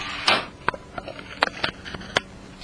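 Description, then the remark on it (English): A screen door slams shut with a brief rushing swish as Ellen goes in after turning down the music, then a quick string of sharp wooden clacks and rattles as it settles. No one speaks. “That was Ellen going in and turning down the music and slamming the screen door so that you could all know that she has done her duty.”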